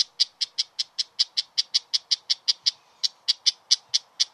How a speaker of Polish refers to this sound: Gąsiorek, inaczej dzierżba gąsiorek, ptak mały, acz większy od wróbla. Wystraszony odzywa się tak.